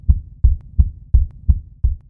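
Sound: heartbeat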